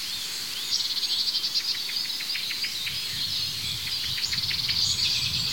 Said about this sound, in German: Ja, da hört diese Aufregung der Amsel. Das Huit Huit hat aufgehört. Ja, da ist es wieder.